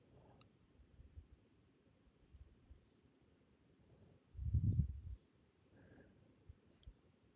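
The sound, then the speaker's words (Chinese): Faint, scattered computer mouse clicks, a few sharp taps spaced irregularly over quiet room noise, with a brief low rumble of handling in the middle. No one speaks. “可以，不好意思，刚才那个，我这边鼠标也对不太”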